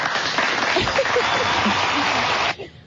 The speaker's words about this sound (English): Wow. Did you hear that? You got a standing ovation. You got a standing ovation, and then we were able to take them out immediately.